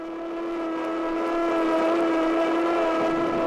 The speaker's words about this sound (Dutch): Luisteraars, u hoort het. En wat u niet ziet, dat zien wij, dat is dat over het water van de Schelde de grijze rookpluimen driftig omhoog schieten. Dat zijn de rookpluimen die uit de sleepbootjes komen, de sirenes die klinken.